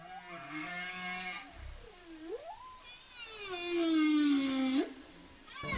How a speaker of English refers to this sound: It's what the whales are talking about.